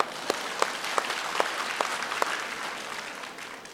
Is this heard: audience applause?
yes